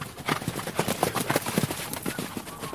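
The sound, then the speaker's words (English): Horses are guided at a gallop around a dirt track at the Inanda Club, a polo club. Their hooves thud in a rapid, overlapping rhythm with a steady rumble of hoofbeats and no voices. “guides horses on a gallop around a dirt track.”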